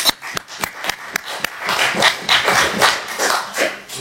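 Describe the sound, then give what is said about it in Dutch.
A few scattered, sharp claps start things off, then a crowd joins in and the applause swells into a steady, dense patter that continues to the end, with no talking. The applause honours 40 years of government service. “Goed, laat ik in het kader van de mededeling dan ook maar even zeggen waar we dan ook maar het applaus voor gaven”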